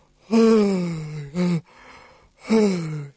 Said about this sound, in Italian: gli starnuti, sono cose normali, gli sbadigli, ora vi fa sbadigliare.